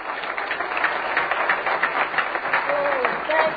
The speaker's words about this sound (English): Everybody clap your hands for the Lord right now.